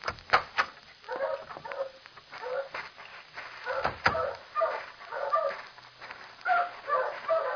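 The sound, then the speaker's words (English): A chorus of dogs barking, yipping and whimpering in the kennels of a business that boards and sells dogs, overlapping irregularly at moderate loudness, with a brief sharp knock or door sound partway through as a door opens onto the kennels. “Through this door. It opens directly onto the kennels.”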